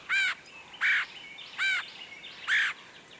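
Four harsh, raspy red-headed woodpecker calls repeat at a steady, even pace, each a short burst with a slightly nasal, churring tone, clear against a quiet outdoor background.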